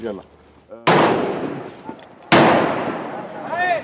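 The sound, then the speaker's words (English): Two loud, sharp blasts of outgoing artillery fire at a frontline area in Syria, about a second and a half apart, each followed by a long rumbling decay, with faint voices talking briefly between and after them. “It's here, that's outgoing.”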